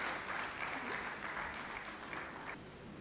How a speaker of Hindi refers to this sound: आदरणीय शिवानी दीदी जी, तालियों के साथ आपका आह्वान करते हैं दिशा प्रदान करने के लिए।